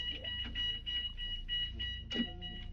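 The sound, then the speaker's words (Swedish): A school fire alarm rings steadily with a shrill, high-pitched tone that pulses in a regular rhythm, sounding somewhat muffled over a low background rumble, with no one speaking. “Brandlarmet har gått, det blinkar i rött och eleverna har gömt sig under borden.”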